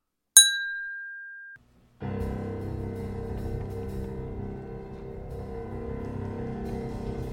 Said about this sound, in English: Clink!